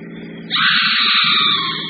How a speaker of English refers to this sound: Felt like we hit something. Nonsense, I ran off the road.